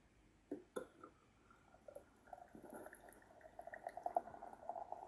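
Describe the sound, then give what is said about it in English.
Cider pours into a pint glass, a steady glugging stream with a rising, bubbly pitch as the glass fills, broken by a couple of clinks at the start. “Mind, cider is easier to pour than a beer.”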